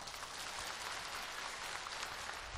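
Steady audience applause fills the whole stretch, a dense patter of many hands clapping at an even, fairly loud level with no voices over it.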